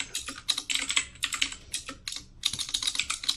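Rapid, uneven clatter of fingers typing on a computer keyboard, fairly crisp, with bursts of keystrokes and a brief pause before the typing resumes. No one speaks.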